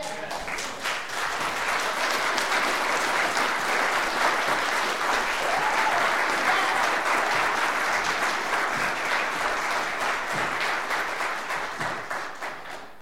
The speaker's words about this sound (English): I know not all of you applauded for that line. It's all right. It's all right.